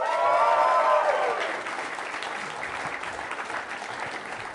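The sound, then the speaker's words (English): A comedy festival audience at the first show bursts into applause with cheering and whoops, loudest in the first second or so, then settling into steady, dense clapping for several seconds. “Let's a round of applause.”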